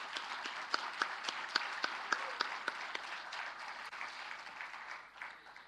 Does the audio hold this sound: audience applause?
yes